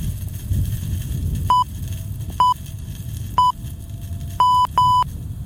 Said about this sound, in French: je propose qu'on introduise une petite sonnerie toutes les 50 secondes en hommage à l'homme ou à la femme qui meurt toutes les 50 secondes en France.